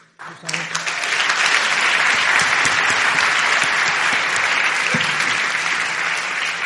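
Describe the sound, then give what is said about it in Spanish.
A crowd at the show Living Room bursts into dense, steady applause that rises quickly and stays loud for several seconds, hundreds of hands clapping together with a few voices faintly mixed into the roar. “Total, o sea, el aplauso está súper, o sea, perecedor.”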